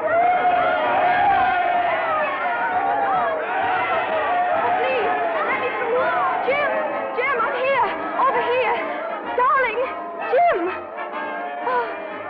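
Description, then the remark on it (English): A dense crowd on a pier murmurs and chatters continuously, many overlapping voices at steady volume with occasional louder calls rising above the din, busy throughout. “How I got through that crowd, I'll never know.”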